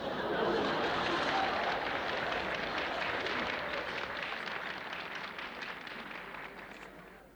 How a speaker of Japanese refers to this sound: これは重要な点ですよ。皆さん拍手をなさったじゃありませんか。